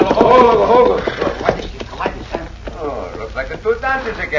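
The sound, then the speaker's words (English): Horses' hooves clip-clop in a steady, uneven rhythm as riders draw near, the clattering loud, with men's voices speaking over it. “Get down off them horses.”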